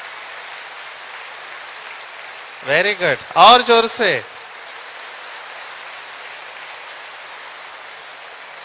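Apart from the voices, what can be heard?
audience clapping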